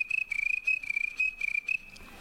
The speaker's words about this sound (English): and just casual conversation just drifts away to silence, and then the sounds of the night take over. There's crickets of all kinds.